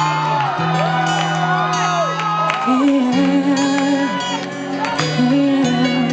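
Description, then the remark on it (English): A large audience screams and whoops loudly and continuously at a performer's urging, with scattered clapping, over steady music with sustained low synth notes. Voices overlap densely throughout. “I need y'all to scream. I need y'all to clap them hands.”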